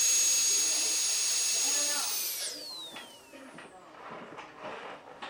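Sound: dentist's drill whirring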